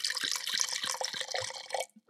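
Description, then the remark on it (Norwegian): A 2023 100% Grenache Noir wine being poured into a glass: a steady, bright liquid rush with gurgling splashes for about two seconds, ending abruptly with a small final drip, no voices. “Her kommer da litt elefant i glasset. Nydelig lyd.”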